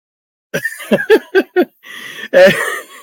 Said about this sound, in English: And I'm now coughing. Great.